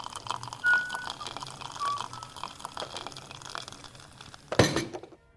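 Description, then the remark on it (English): Tea is poured steadily into a cup by Cillian Murphy with a soft, hissing trickle for several seconds, then a sharp ceramic clink rings out near the end before it falls quiet. “Any chance of that cup of tea? Coming up, love.”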